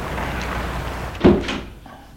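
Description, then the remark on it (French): The unlocked door of an alleyway is pushed open as people enter, with a single solid knock and brief rattle about midway, over a steady low background hum that fades out afterward. No one speaks. “La porte de l'allée n'est pas fermée. Ils entrent.”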